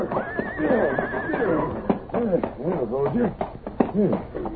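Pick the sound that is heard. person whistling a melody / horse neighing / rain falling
horse neighing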